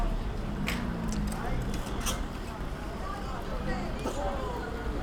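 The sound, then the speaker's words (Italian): Busy outdoor street ambience with stands and traffic wardens directing cars: a steady wash of traffic rumble and crowd hubbub, with faint, indistinct voices of children playing and occasional sharp clicks and knocks scattered throughout. “Ci sono i vigili che cercano di indirizzare le auto.”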